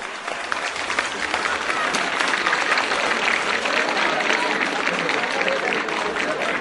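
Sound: auditorium applause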